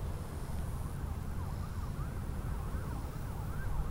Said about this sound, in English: And you might also hear a siren in the distance.